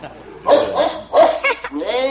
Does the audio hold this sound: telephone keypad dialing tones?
no